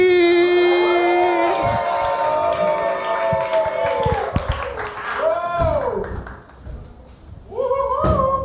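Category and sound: crowd, audience applause and cheering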